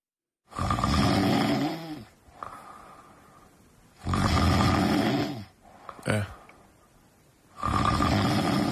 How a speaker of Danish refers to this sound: Jeg har selv været der. Snorker.